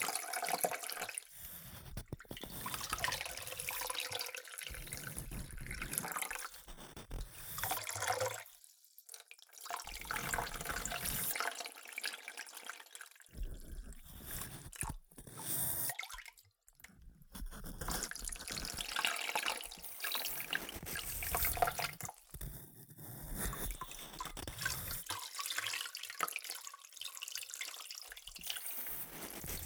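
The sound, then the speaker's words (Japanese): Warm water pours slowly and steadily over hair to rinse out shampoo foam during a hair wash, a continuous splashing and trickling with brief gaps where the flow pauses or shifts, with no voices. “お湯をゆっくりかけることで髪を傷めません。”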